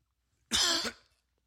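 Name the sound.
coughing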